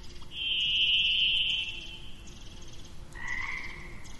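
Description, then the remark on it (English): Dawn birdsong at 6:16 a.m. on the Ho River Trail: a long, steady high-pitched trill rings out for about two seconds, then after a short pause a second, slightly lower trill follows over a soft hiss of background noise. “We head off down the trail, and the birdsong just comes alive.”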